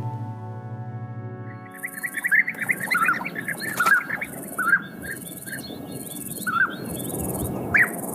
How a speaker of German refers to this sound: Das sind Bienenfresser. Diese bunten, kleinen, türkis-grün-gelben Vögel leben gerne im Warmen, aber auch in Deutschland und der Schweiz kommen sie ab und zu vor.